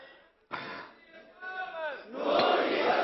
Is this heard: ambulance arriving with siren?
no